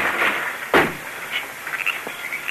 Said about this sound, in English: It might be a trick. I'll kick open the door.